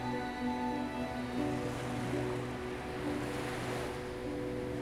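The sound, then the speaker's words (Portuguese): Gentle ocean waves wash steadily onto a sandy shore in a continuous soft hiss, with a quiet sustained tonal hum running underneath and no voices. “Ouça o suave som das ondas acariciando a areia.”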